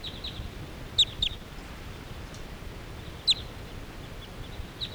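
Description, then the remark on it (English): A few sharp, high-pitched calls from a flock of crossbills flying away, a quick pair and then a single note, ring out briefly over a steady low rumble of background noise, with no talking. “And meanwhile, all these crossbills are hanging around this area, but they're not all that interested in going down to the decoys.”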